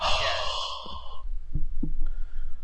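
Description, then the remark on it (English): A loud breath rushes across a microphone for about a second as a person breathes into it, followed by softer muffled thumps and faint breathy noises with low background hum. “Shooter's breathing in the mic.”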